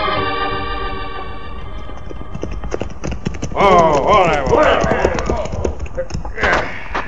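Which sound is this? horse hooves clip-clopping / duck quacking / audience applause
horse hooves clip-clopping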